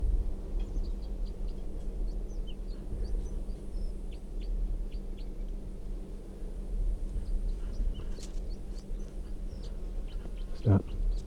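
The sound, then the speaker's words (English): Song of a wild red crossbill, a bright red male with a right-crossing bill and yellow down the middle of the belly: a long run of short, high chips and twittering notes, fairly faint over a steady low background rumble, with one brief louder knock near the end. “This wild bird is red and it has a right crossing bill, and it has quite a bit of yellow right down the middle of the belly.”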